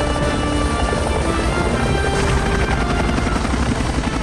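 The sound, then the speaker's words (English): Loud, steady roar of three Seahawk military helicopters taking off from an aircraft carrier, rotor thump and engine whine filling everything with a dense, continuous wash of noise and no voices. “Later, 3 Seahawks take off.”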